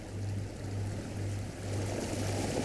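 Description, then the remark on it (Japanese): Ocean waves wash in a steady, unbroken rush of watery noise, with a low droning hum that fades in and out beneath it. No one speaks. “そうか、波の音を聞いていたんだ。”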